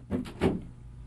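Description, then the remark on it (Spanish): The door of a dim study swings shut, making two quick, dull thuds close together, followed by quiet with a faint low hum. No one speaks. “Cierra la puerta, Alipio.”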